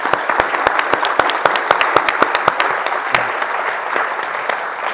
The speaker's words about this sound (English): So I'd just like to give Warren and the entire staff a round of applause.